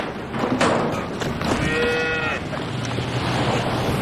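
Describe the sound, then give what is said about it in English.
Thuds and knocking as two men struggle to open doors, then a single drawn-out cow moo as the cow hops out. Steady background noise continues underneath as the animal moves. “Jake and Amos struggle to open the doors for a cow to run out. It finally opens and the cow hops out.”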